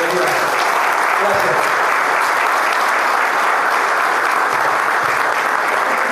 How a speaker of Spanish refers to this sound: le damos un gran aplauso a Cristiano y bienvenida